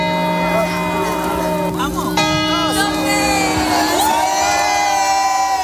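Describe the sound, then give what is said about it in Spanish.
A large crowd in the packed Puerta del Sol square in Madrid cheers and shouts in a steady, loud din at noon during the rehearsal of the New Year chimes, with whoops rising above it and sustained high tones like whistles or toy horns sounding throughout. “Eran las preuvas que se han celebrado a las 12 en punto del mediodía en la Puerta del Sol, una plaza abarrotada de gente donde muchos han querido adelantarse a la celebración del Año Nuevo.”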